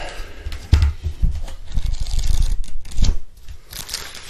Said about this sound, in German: Und da blättern wir mal.